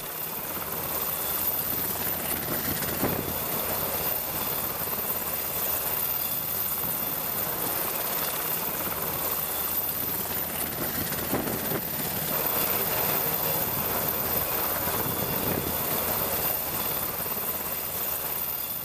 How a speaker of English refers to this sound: After the VIRS exam is completed, soldiers will promptly move into sling load inspections and training. One after another, they will take turns signaling the helicopter while their classmates hook the sling load.